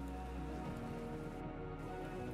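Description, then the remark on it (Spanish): Steady rain pattering on a surface, a dense continuous wash of drops with no pauses, at an even level and no voices. “La lluvia me pone reflexivo. Me abraza y quisiera vivir con ese sonido en el fondo siempre.”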